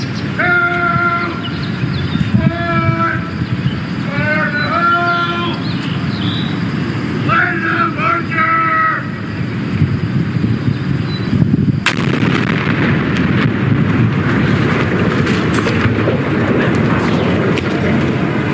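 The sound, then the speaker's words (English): A highway ramp is blown up in a demolition set off by a six-year-old child pressing the button. The explosion booms out after a few repeated warning horn blasts, followed by a long, heavy rumble of collapsing debris under steady crowd noise. “Now, you don't hear the kid, but you sure as hell hear the explosion go down here.”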